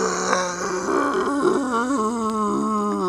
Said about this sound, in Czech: Dobře, tak je to medvěd. Ale je oheň, on se bojí ohně, ne?